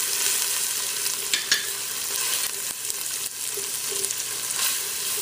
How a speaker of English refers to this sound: And I like frying my tomato paste until it changes color. And it'll start smelling really, really good. Okay, so that's frying up. I'm going to go ahead and add my turmeric in there.